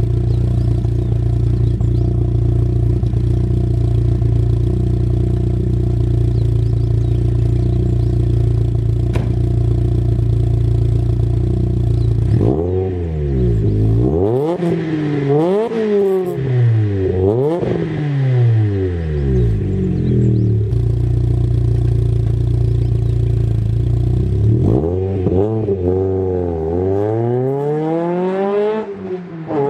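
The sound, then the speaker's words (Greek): A German car, a Volkswagen Golf, idles with a steady low rumble, then its engine revs repeatedly in sharp rising and falling bursts, loud, with no talking. “Αλλά για πάμε να δούμε και να γυρίσουμε και να έρθουμε να πάλι γυρίσουμε σελίδα, να έρθουμε στην Ευρώπη, να πάμε στους Γερμανούς και να μιλήσουμε για ένα εμβληματικό αυτοκίνητο που έχει γράψει δικιά του ιστορία.”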